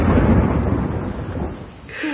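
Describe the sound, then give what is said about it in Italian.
A heavy rumble of thunder rolls over steady rain, loud and broad at first, then fading toward the end as the downpour continues. “Oh, mi sa che c'è anche il temporale, non solo la pioggia.”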